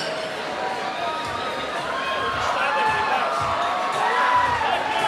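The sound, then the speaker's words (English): A large concert crowd cheers and shouts continuously as the band takes a bow after its set, a dense wash of many voices with whoops rising above it, swelling slightly louder toward the end. “Crowd just love this band tonight.”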